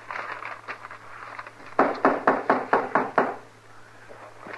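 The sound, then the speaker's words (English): A series of about seven firm, evenly spaced knocks on an unlocked wooden door, fairly loud, with no voices and only a faint low hum behind them. “Like a body could open the door for theirself.”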